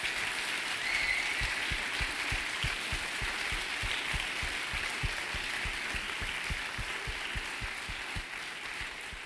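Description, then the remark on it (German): A crowd applauds the organizing team of an event steadily for several seconds, a dense wash of many hands clapping with a few sharper individual claps standing out, holding at a fairly constant level before easing slightly at the end. “Ich glaube, das ist ein extra Applaus nochmal wert für die Orga.”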